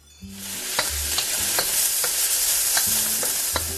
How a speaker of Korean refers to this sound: 냄비에 올리브 오일을 두르고 홍합의 비릿한 맛을 잡아주기 위해 매콤한 페페로치노와 으깬 마늘을 넣어 볶다가 깨끗이 손질한 홍합을 넣어 다시 한번 볶는다.